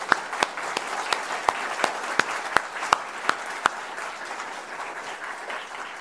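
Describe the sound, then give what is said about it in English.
An audience applauds people who served them over the past two weeks, in a steady wash of clapping, with a few sharp, louder claps punctuating the sound at fairly regular intervals before it thins out toward the end. “And so I just want to give them a round of applause and just to say thank you for the work they've done.”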